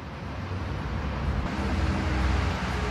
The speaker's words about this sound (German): Ja, man kriegt das gar nicht mit normalerweise, ne? Die Autos fahren, ein Bus biegt um die Ecke, Fahrradfahrer geht vorbei, ein Dude beißt in seinen Döner, eine Family kommt auf dem Fahrrad angefahren, kleines Klingelkind.